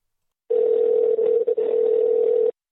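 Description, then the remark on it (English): A steady telephone dial tone while placing a call hums for about two seconds, loud, with two tiny dropouts in the middle before it cuts off abruptly. No one speaks. “Let me get this phone thing ready.”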